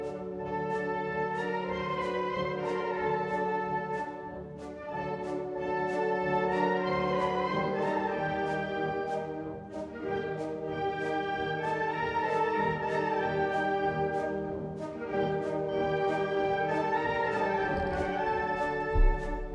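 A brass band plays a lively Spanish pasodoble, a marcha mora, bright horns carrying the melody over a steady, driving drum beat. The music stays loud and even throughout, with no voices.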